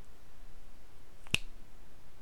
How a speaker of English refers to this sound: Every time you hear me snap my fingers, your cock is going to twitch and tense in pleasure.